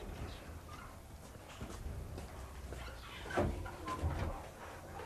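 household object, door opening and closing

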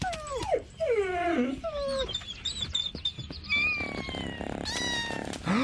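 animal, kittens meowing

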